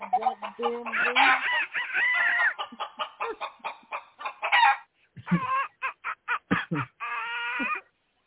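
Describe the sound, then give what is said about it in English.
A Norristown chicken clucks in quick, loud, choppy bursts as it tries to peck at someone, and a rooster crows in longer drawn-out calls, with no talking. “Get your damn chicken off of me right now.”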